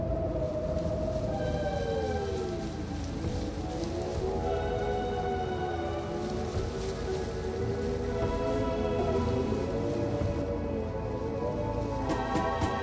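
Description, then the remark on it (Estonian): A great storm at sea at night: dense, steady roar of rain and wind, with a wavering, moaning tone sliding up and down throughout. No voices, constantly loud. “Öösel saatis Jumalaga merele suure tormi.”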